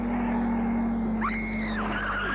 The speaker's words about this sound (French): Voiture qui a freiné.